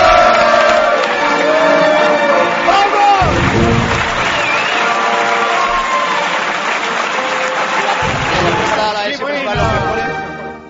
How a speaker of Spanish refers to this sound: Vítores y aplausos.